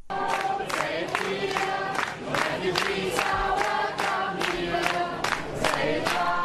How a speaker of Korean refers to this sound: 지난 5일 독일 살페이트 주민들이 기차역에 내리는 난민들에게 환영 노래를 불러주는 것을 들어보시죠.